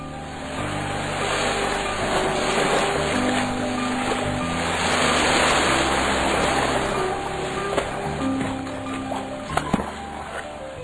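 A steady, rushing wash of sea waves rolls continuously along the shore, even in loudness, with a low droning hum running underneath and a couple of brief knocks near the end.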